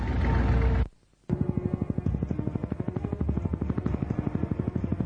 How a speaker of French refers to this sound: Bon sang, l'hélicoptère arrive, il va nous tirer dessus. Mais s'il descend assez bas, je peux la voir.